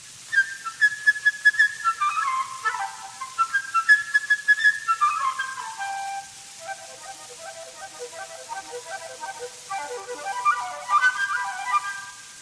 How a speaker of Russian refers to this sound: Каждое действующее лицо этой симфонической сказки изображено в оркестре своим инструментом. Птичка – флейтой.